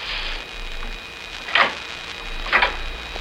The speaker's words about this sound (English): Behind it, I can hear the click of typewriter keys.